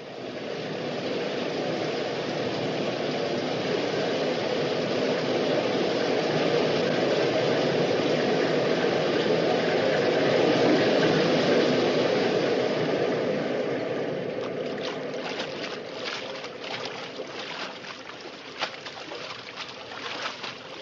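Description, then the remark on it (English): A loud, steady roar of rushing water from waterfalls, heard while being carried under the falls, then eases and thins out toward the end, leaving a softer wash with scattered small knocks. “They're taking us under the waterfalls.”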